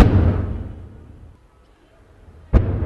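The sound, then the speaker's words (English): Two heavy thuds of Israeli artillery fire into Gaza, each a deep boom with a low rumbling tail that slowly fades. The second hits sharply a couple of seconds after the first. No one speaks. “That thud of artillery has become an unnerving backdrop to the Hassouna's already pressure-filled life.”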